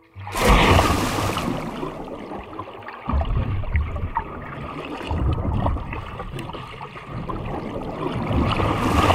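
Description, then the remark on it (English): Water churns and sloshes steadily around a small boat being rowed on a lake toward the centre, with dense splashing and low rumbling as it moves along, continuous, no voices present. “She got into the boat and rowed to the centre.”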